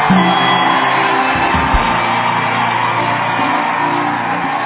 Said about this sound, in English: Jesus a big, big, big, big hand clap.